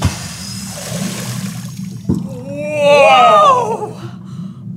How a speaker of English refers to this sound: Did you hear that? What? I heard whales singing underwater. Is that what that squeaky sound was? Yeah.